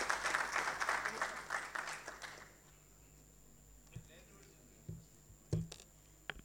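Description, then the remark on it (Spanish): An audience applauds in a dense, steady burst of clapping for a couple of seconds, then it quickly dies away, leaving near quiet with a few scattered claps and soft knocks. “Un aplauso.”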